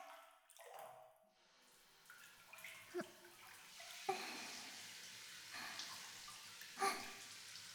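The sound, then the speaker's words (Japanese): Running water from a warm shower hisses steadily and broadly, with a few sharper splashes and taps breaking through now and then; no one speaks. “シャワー暖かくて気持ちいい。”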